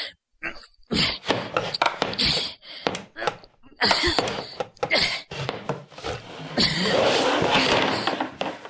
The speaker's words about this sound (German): Ich kämpfe mit einem widerspenstigen Stuhl. Und ich glaube, ich siege.